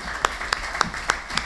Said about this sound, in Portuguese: Se não há nenhuma objeção a este procedimento, assim se faz e eu proponho uma salva de palmas aos novos eleitos.